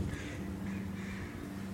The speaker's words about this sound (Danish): Vi lytter intenst. Så de andre fugle skal tie stille. Det er en solsort.